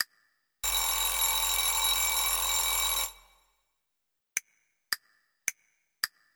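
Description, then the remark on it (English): A clock rings to mark 8 o'clock: a loud, continuous bell rings for about two and a half seconds and cuts off, followed by four short, bright dings at an even pace. No voices. “I'm ringing to let you know. It's 8 o'clock.”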